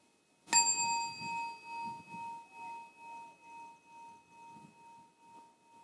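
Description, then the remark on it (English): A single bell is struck once for a breathing and listening practice, with a sharp, bright attack, then its clear tone rings on and slowly fades, pulsing gently as it decays over several seconds. “You will hear the sound of the bell.”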